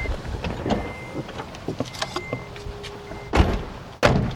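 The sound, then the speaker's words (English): A car door unlatches with a few small clicks and rattles as people get out after pulling up at a house, then two heavy, loud thumps land about half a second apart as it swings and shuts. No one speaks. “Let's hop out of the car here.”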